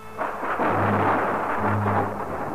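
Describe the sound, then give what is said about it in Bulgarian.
A deep, rumbling thunder clap rolls loudly and continuously, a broad roar with low tonal undertones swelling twice, with no voices present. “Светкавица.”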